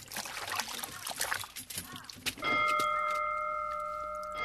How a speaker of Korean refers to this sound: 이 소리는 교원 모임을 알리는 종소리네. 마구잡이로 종을 치면 수업 시작종이고 이 소리는 교원들 모이라는 소리야.